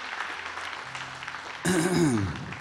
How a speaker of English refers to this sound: Give the Lord a hand clap, people.